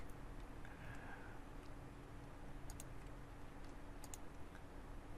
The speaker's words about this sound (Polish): I klikam Ctrl S, co jest bardzo dobrym nawykiem, przypominam.